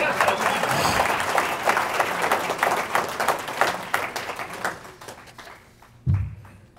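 An audience breaks into dense, steady applause to encourage a man working a machine; it holds strong for several seconds, then thins into scattered claps and fades, followed by a single low thump near the end.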